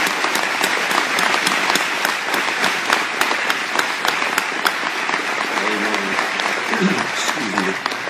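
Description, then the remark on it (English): A large church audience applauds steadily and loudly for several seconds, a dense wash of many hands clapping, with a few voices calling out faintly near the end. “Let's give him a clap.”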